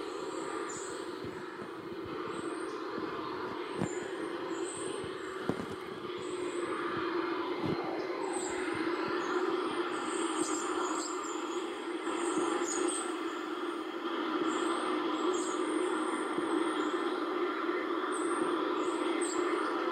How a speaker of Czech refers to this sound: Já vám tady ten záznam z Double Staru pustím. Doufám, že se mi to nějak podaří. Já to bohužel vidím jenom tady, takže. Takové to pískání v tom, to jsou ty hvězdy.